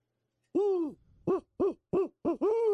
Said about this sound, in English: See, the Hootie Who would be an owl locator, an owl call.